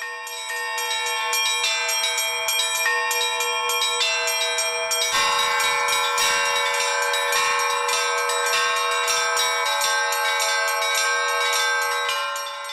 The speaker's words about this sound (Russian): звучные голоса колоколов, поющих в умелых руках отца Александра, настоятеля храма, созывают прихожан на службу